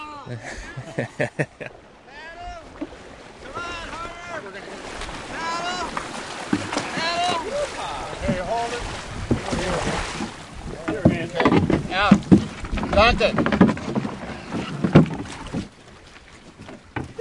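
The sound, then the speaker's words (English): A wooden rowboat carrying historical reenactors approaches on the Missouri River in the Missouri Breaks, oars splashing and knocking steadily and growing louder, while several voices call and chatter from the boat over light wind. “These are the reenactors coming in.”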